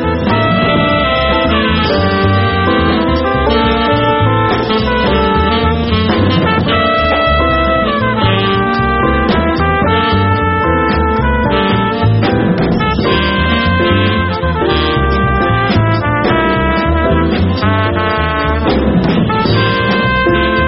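A hard bop jazz band plays at full, steady volume, with a tenor saxophone carrying melodic lines over a busy rhythm section; continuous music with no talking.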